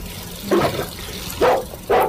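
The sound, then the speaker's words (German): A young German Shepherd, at most half a year old, barks three times loudly in front of a house while a small boy plays with it, the last two barks coming quicker, over a steady hissing background and no voices. “Vor dem Haus spielte ein kleiner Junge mit einem Schäferhund, der höchstens ein halbes Jahr alt war.”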